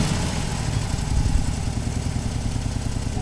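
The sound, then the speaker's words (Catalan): A Harley motorcycle engine idles, a loud, steady low rumble with a lumpy, pulsing beat and a slight swell partway through. No voices. “Moto sí, claro, pero Harleys, que sean Harleys.”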